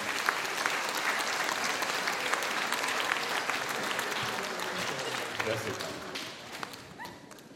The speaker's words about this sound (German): Wir dürfen ruhig schon klatschen, das ist super.